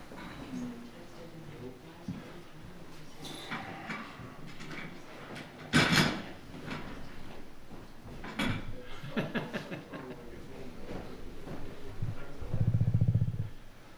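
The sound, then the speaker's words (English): A chair is lifted down and shifted around in a church before an evening service, with a sharp clunk midway, another knock soon after, and scraping and shuffling between, under faint background voices. “Oh, I forgot to get my chair down.”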